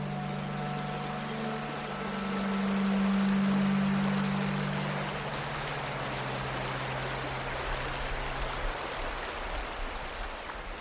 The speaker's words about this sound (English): At this point, I encourage you to take off your headphones and simply listen to the water. What does it sound like today? Does it compare to the recordings you've been listening to?